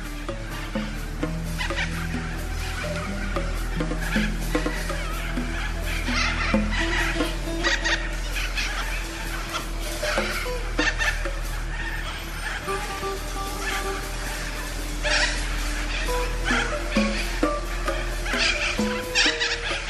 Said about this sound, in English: But for now, listen to these birds.